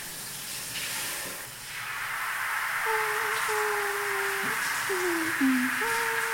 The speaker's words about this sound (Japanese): 次は頭を洗わせていただきますよ。頭にシャワーをかけますので、目をつぶっていてくださいね。